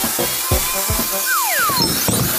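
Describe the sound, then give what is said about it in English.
A chainsaw grinds steadily through a giant ice cube, making snow, a loud, continuous buzzing rasp with a few knocks and whining pitch slides over it. No one speaks. “We're gonna collect all the snow from the chainsaw that I made.”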